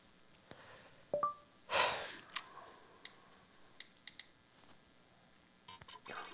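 A couple of quick electronic keypad beeps from a phone as someone plays on it, followed by a soft rustle and scattered light taps and clicks, all fairly quiet with no one talking.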